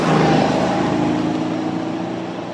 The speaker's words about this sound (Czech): Posloucháte Bítovej autosalon a ryk nesmyslu zvaného Mercedes-Benz G4x4 na druhou.